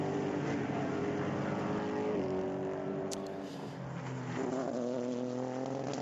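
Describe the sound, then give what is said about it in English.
Loud, sustained engine roar from DPi prototype race cars in the IMSA WeatherTech SportsCar Championship, with shifting harmonic pitch as the engines rev and change gear, steady throughout with no talking. “Different sounds of the engines as well with the DPIs.”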